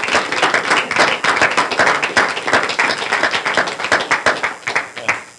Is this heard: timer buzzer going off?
no